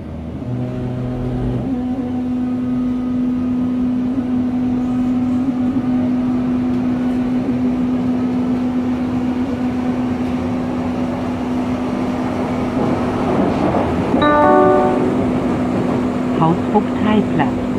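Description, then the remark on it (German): A Berlin U-Bahn line 2 subway train rolls steadily between stations, a constant rumble with a droning electric motor hum, and a brief cluster of bright tones rings out near the end. “Ja, und dazu fahren wir erst einmal ein bisschen mit der U-Bahn-Linie 2.”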